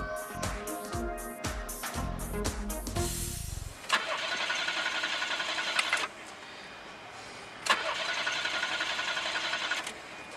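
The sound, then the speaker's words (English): A car engine cranks repeatedly in rapid, rhythmic bursts for a few seconds without catching, followed by a steady hissing whir that swells twice more, with no voices. The car runs on vegetable oil and won't start because it is out of vegetable oil, not out of gas. “The reason this car won't start is not because it's out of gas.”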